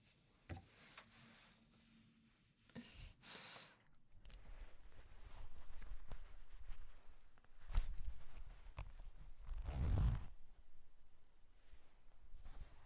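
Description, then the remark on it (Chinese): A brief zipper rasp as a trouser zip is pulled open, followed by soft rustling of fabric. No one speaks. “要我蹲下来，把你裤子拉链解开吗？”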